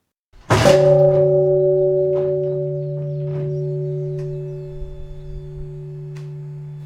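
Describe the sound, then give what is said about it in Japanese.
A single deep strike of the automatic temple bell at Shogonji on Shikanoshima, Fukuoka, which rings at noon and 5 pm, rings out loud. Its low humming tones then sustain and slowly fade, with faint outdoor background noise. “12時と夕方5時に時をつけてるこの鐘が鳴るんですね。しかもこれ自動なんです。”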